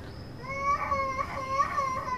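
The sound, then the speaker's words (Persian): A young child cries in repeated, steady wailing bursts, with a faint hum of noise underneath. “اون چرا گریه میکنه؟”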